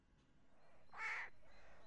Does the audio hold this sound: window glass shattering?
no